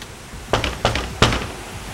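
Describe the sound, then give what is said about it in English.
Three firm knocks on the door of a party in an uneven rhythm, fairly loud against a quiet, slightly hissy background, with no voices. “I'm about to knock, man.”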